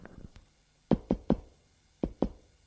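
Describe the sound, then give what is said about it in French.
Knocking on a brother's bedroom door: a quick set of three firm raps, a short pause, then two more. The knocks are dull and thudding, with a few faint taps just before them. “Frappe à sa porte.”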